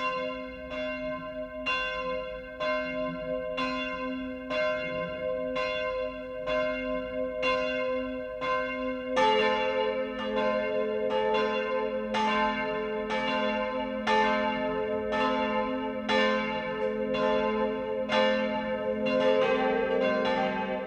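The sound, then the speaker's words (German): Church bells of the Catholic parish church St. Johannes der Täufer in Hammelburg, Bad Kissingen district, ring at 12 o'clock for midday, a steady series of evenly spaced strikes with rich, lingering overtones; around nine seconds in a second, deeper bell joins and the peal grows fuller and denser. “Das Mittagsläuten kommt heute aus Hammelburg im Landkreis Bad Kissingen.”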